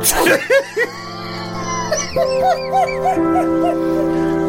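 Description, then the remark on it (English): A dog lets out a sharp bark, then a rapid series of high, whining yelps and whimpers, fairly loud, over a steady humming background. “The only animal there was a dog.”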